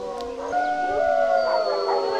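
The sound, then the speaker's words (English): Several wolves howl together in long, overlapping sustained tones, their voices rising and holding in a steady chorus with no talking; wolves at Mission Wolf at sunset, howls echoing through aspens and pines below the Sangre de Cristo Mountains. “Howls echo through aspens and pines as the sky turns to gold behind the rugged Sangre de Cristo Mountains.”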